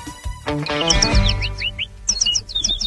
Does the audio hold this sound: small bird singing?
yes